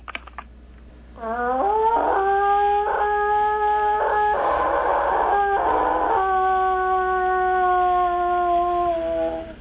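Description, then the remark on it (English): A person imitates a wolf howl to look for wolves in the backcountry: one long, sustained, mournful tone that rises at the start and slowly falls, loud, with no other talking. “So we do this in order to look for wolves in the backcountry.”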